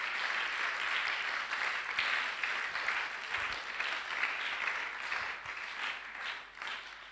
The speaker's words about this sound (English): I think you should be clapping. You should be clapping.